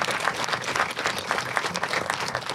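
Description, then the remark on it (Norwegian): Steady applause from an audience at a stage event fills the whole moment, a dense wash of many hands clapping at once at a moderate, even loudness with no voices on top. “Gi en liten applaus. Ja, en stor applaus til Space Crash Girl.”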